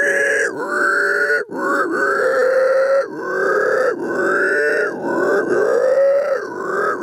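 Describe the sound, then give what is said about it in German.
Pigs squeal loudly and almost without pause while being fed, a string of long, piercing cries that rise and fall in pitch, with brief breaks between them. No one speaks. “Hast du mal gehört, was das Swin mag, wenn er futtert wird? Ja, die quietschen.”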